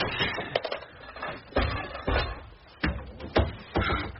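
door being opened

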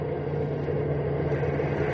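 bus engine running

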